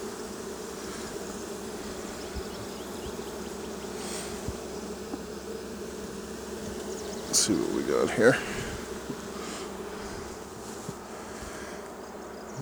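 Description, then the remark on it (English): A steady, continuous hum of many honeybees buzzing at an opened hive being smoked and inspected frame by frame, with many bees at the entrance; a brief louder clatter and scrape midway and a man speaking quietly over the drone. “A lot of bees in the entrance.”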